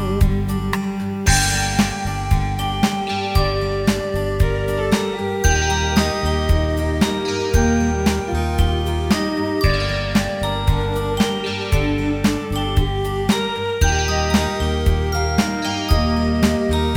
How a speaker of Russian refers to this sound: Мне сегодня сидеть под мухой, слышу я колокольный звон.